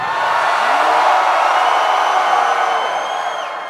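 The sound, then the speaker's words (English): A New York City concert crowd screams and roars on request in one sustained, loud wash of noise that fades slightly at the end, with a few high piercing shrieks rising above the roar. “Scream for me like a storm.”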